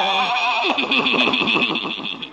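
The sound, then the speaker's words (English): Old Doc Yak Yak's buggy horse whinnies loudly, a single high, quavering call that trembles rapidly and slowly fades over about two seconds, with no voices over it. “Old Doc Yak Yak and his horse and buggy.”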